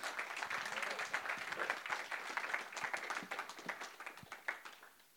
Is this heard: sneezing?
no